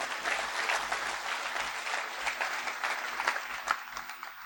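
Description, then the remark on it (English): An audience at a conference claps steadily for several seconds for the Lord, a dense wash of many hands, with no voices standing out above the applause. “Can you give the Lord a clap and say, Amen, Lord?”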